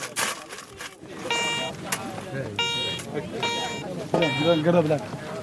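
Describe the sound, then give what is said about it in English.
A metal detector beeps three times in sustained, buzzy electronic tones spaced about a second apart, with muffled voices and outdoor noise in the background, as men search for gold by digging in the sand of a barren desert under a baking sun. “The beep from the metal detector could be the first sign their luck is about to change.”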